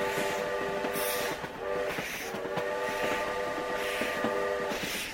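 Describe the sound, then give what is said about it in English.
A train begins to glide forward and rolls steadily with a low rumble while its whistle sounds in a series of long, loud, sustained blasts broken by brief pauses. “A long series of whistles then blew”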